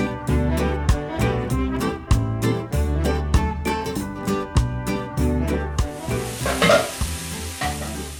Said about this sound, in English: That's the sound of tamales sizzling in a pan. Join us in the kitchen of a Guatemalan cook just after this short break.